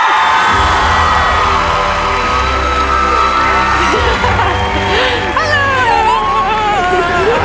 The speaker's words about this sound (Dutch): Geef haar alsjeblieft het applaus dat ze verdient. Dames en heren, hier is …!